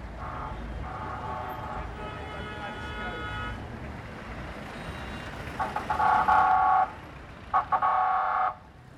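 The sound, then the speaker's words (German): Dense street bustle in Port-au-Prince by the iron-built Marché de Fer market hall, with engines rumbling, horn-like tonal blasts and beeping cutting through, plus a steady wash of crowd voices and footsteps. “Das Verkehrsgetümmel und die Fußgänger verdichten sich bei der Markthalle des Marché de Fer.”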